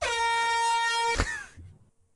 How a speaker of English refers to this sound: Bro, I let off an air horn just now, so I didn't hear what you said. I thought it was the right air horn, but it wasn't the right air horn still. So it sounded so trash.